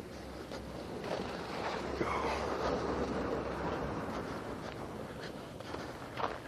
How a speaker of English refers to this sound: Truck coming.